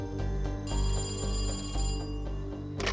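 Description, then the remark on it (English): A telephone rings with a steady, ringing bell tone repeating for a few seconds, fairly loud, with no voices, as a committee receives a phone call. “But nothing could compare to the phone call the committee received a few days later.”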